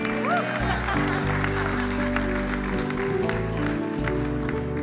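A crowd claps and cheers loudly and steadily for about five seconds, the dense patter of applause mixed with sustained, droning music underneath.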